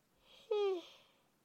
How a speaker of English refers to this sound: Oh, first I gotta yawn.